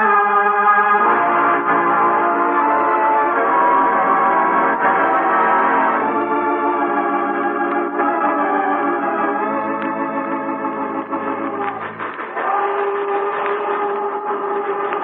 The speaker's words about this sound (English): Here comes the train.